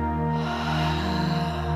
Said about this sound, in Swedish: Och så börjar vi med att ta ett djupt andetag. Där vi andas in genom näsan. Fyller upp bröstkorgen och magen med luft. Och andas ut genom munnen.